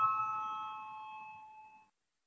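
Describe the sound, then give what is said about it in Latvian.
A single electronic parliamentary bell chime, rung to call a vote on proposal 12 submitted by deputy Švecova, rings out clearly, its bright harmonic tones sustaining and slowly fading over about two seconds before cutting off, with faint low murmur beneath. “Lūdzu, zvanu, balsosim par 12. Deputāta Švecovas iesniegto priekšlikumu.”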